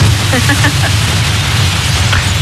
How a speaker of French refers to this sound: Qu'est-ce que c'est que ce bruit là? Ça, c'est l'avion qui chute, hein. Parce que pour faire des économies, bah, y a pas de pilote.